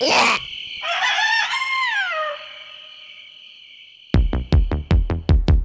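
A rooster lets out a single loud, drawn-out crow that rises and then trails off, followed after a pause by a run of sharp, regular thumping beats.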